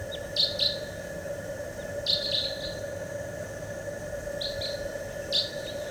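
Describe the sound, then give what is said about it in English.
A wild bird gives short, high chirping calls in small clusters, roughly three bursts spread across a few seconds, over a steady droning background hum. No one speaks. “Wild bird.”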